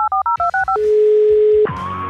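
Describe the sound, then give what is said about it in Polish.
A quick run of about six telephone keypad tones beeps in rapid succession, then a long steady line tone hums before another sound cuts in. No one speaks. “Tak jest, dzwonimy.”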